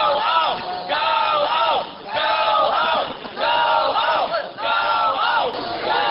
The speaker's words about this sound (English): The Kansans went out of their way to get the crowd upset, dragging an American flag on the ground and cursing at the counter-protesters. The crowd responded with chants of their own.